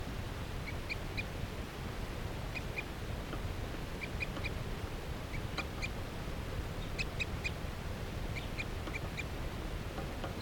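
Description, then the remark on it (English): A wild bird perched in a tree along a net peeps in short, high-pitched bursts, two or three quick notes at a time and repeated irregularly, over a steady background hiss. No one speaks. “Now the bird is perched up in the tree along the net.”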